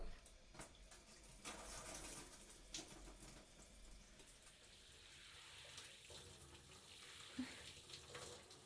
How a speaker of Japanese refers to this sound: はい、じゃあシャワーで一度体を温めましょう。